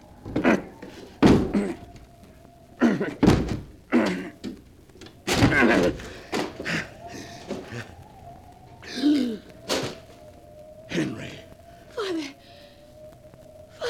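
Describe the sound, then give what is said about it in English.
A locked door is forced with a series of heavy, irregular thuds and cracking blows, loud, mixed with strained grunts and gasping breaths between impacts. “The door's locked. I'll have to break it down.”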